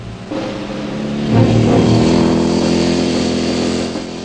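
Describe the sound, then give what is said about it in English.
A motorcycle engine roars, revving higher and swelling to a loud peak before holding steady and easing off slightly as the first of two bikes races across a narrow, pale-coloured cart track, throwing up white dust. No one speaks. “Leaning against a corner of the barn, he takes careful aim as the first bike races across the pale-coloured cart track.”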